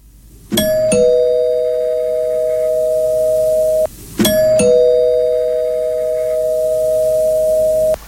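An electronic doorbell rings twice, a few seconds apart, each time a bright chiming attack settling into a long, steady held tone. Loud, with no voices.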